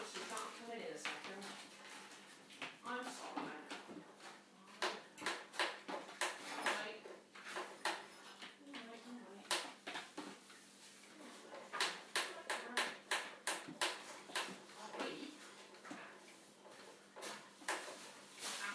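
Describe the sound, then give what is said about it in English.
Canary's water dish being taken out of his bird cage to go into a carrier bag: a run of sharp clicks, knocks and plastic-and-metal rattles, irregular, with faint voices in the background. “I'll take Canary's water dish out of his cage.”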